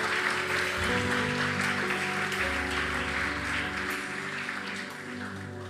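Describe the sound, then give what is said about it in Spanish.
An audience claps for the Lord steadily in a dense, sustained wash of applause for about six seconds, with held keyboard chords sounding underneath and the clapping easing slightly toward the end. “Vamos a darle un aplauso al Señor hoy.”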